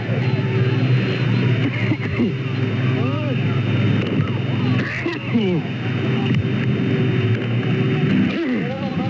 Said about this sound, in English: Large truck with a cannon on it is spraying thick clouds of tear gas directly at the students